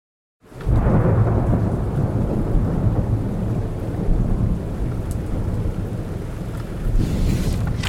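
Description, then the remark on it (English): A thunderstorm at the start of the rainy season, with heavy rain pouring down steadily, deep rumbling thunder rolling underneath and swelling again near the end, with no voices present. “The rainy season has begun.”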